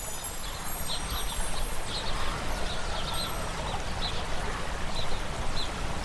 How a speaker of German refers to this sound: Mitten in diesem lebhaften Bild sitzt du noch immer entspannt angelehnt am Brunnen. Unablässig plätschert sein Wasser und holt dich langsam wieder zurück in die Gegenwart.